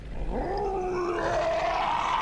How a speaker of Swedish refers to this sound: Jag hör ju redan nu hur han är. Hur han morrar. Ifall ni är riktigt tysta nu, så hör man hur han morrar i bakgrunden. Låt oss höra.